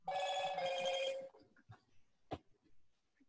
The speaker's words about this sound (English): Yep, so my phone is ringing.